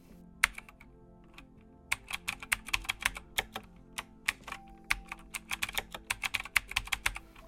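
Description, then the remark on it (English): Rapid, uneven clicking of keys on a computer keyboard, fairly quiet, with a short lull near the start before steady bursts of typing continue; no voices. “The behavioral biometric identifier retrieved through input by a keyboard, known as keystroke dynamics, of course only gets better over time.”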